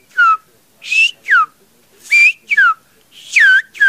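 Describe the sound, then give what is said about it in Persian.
A villager whistles the Greek alphabet in Sfyria, an endangered Greek whistled language: a rapid series of short, pitched phrases, each gliding up or down in tone, like syllables of speech rendered in whistles, loud with brief pauses between. “If you can speak it, you can whistle it.”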